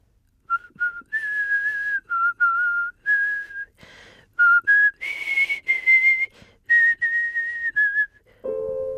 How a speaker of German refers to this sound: Loki sah mich an und dann begann er eine leise Melodie zu pfeifen.